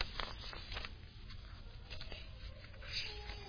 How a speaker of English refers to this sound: Hold on. Got too many pieces of paper here.